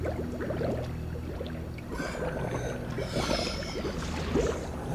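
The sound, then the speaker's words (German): Continuous watery bubbling and gurgling with scattered splashy pops, steady, over a low rumbling undertone; no voices. “Plötzlich hörten sie ein unheimliches Blubbern.”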